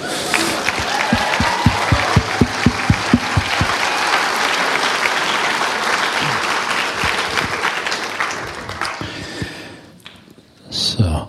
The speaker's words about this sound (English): Hallelujah. Amen. We'll just give it a good clap.